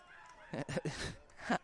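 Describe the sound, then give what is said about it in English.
A person in a baseball dugout barks and makes monkey-like hoots and chatters as the Marauders take a 6-5 lead on a balk, a few short, harsh vocal bursts in quick succession, fairly quiet, with no clear words spoken. “Someone barking and making monkey noises in the dugout as the Marauders take a 6-5 lead.”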